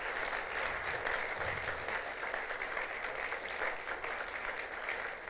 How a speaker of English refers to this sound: And all those that participated in the acting and all those that participated in the lighting and all that participated in the setup, my, what a wonderful, wonderful job tonight. Give them a big round of applause, would you please?